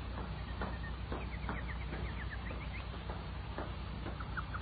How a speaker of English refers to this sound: Listen to the nightingale. Oh, what a beautiful night